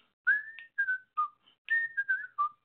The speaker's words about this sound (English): You know, I could listen to him whistle, but most people annoy the heck out of me when they're whistling,